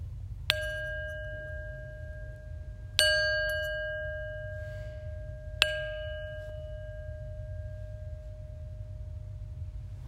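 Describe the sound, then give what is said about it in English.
A meditation bell is struck three times at spaced intervals to begin a prayer practice, each clear ringing tone sustaining and slowly fading over a steady low hum, with no voices. “And so once again, if you can find a posture that's open and receptive, we'll begin this practice and we'll end this practice with the sound of the bell.”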